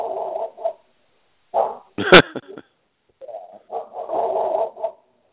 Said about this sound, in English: Is that the dogs from my neighbor's yard or yours? Well, yeah, it probably is. You know, the dogs from your neighbor's yard. Oh, those damn dogs!